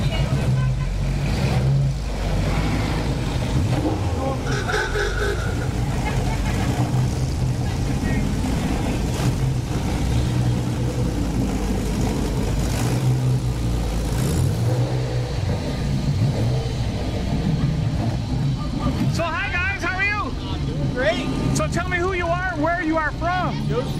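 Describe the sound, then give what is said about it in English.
Busy outdoor ambience at a car show, with idling and revving vehicle engines and a steady low rumble throughout, crowd chatter mixed in, and a few brief higher tones near the end. “All right, well, enjoy the car show.”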